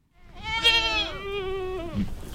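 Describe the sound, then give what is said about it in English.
A single goat lets out a long, wavering bleat lasting nearly two seconds, loud, with faint outdoor background noise underneath, as a bunch of goats graze in a field of brush just north of Auburn in the Sierra Nevada foothills under the hot afternoon sun. “In a field of brush just north of Auburn in the Sierra Nevada foothills, a bunch of goats are grazing under the hot afternoon sun.”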